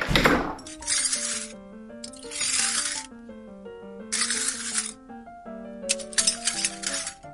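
Broken dishes dropped from a tray being swept with a broom into a dustpan: four steady, rhythmic brush strokes, each a scratchy hiss over tinkling clinks of shards, moderately loud with no talking.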